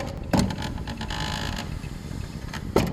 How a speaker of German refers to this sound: macht auch gerne vor, wie die Buchpresse quietscht